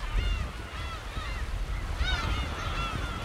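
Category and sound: bird, seabirds calling on sandbanks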